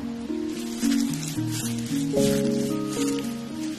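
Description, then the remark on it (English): Steady rain falls on a park with a soft, continuous hiss, and a gentle melody of sustained tones plays beneath it throughout. “What strikes me walking around the rainy park with Alexis is not just how little I know”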